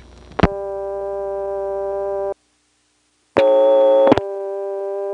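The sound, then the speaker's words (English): A steady telephone dial tone on one phone line starts with a click and cuts off. Then a dial tone on a second, long phone line follows, with a louder, buzzy hum mixed in from the unbalanced line and another click partway through. “Here's a comparison of what it's like to get a dial tone, first on the phone we've been using, and next on this other phone.”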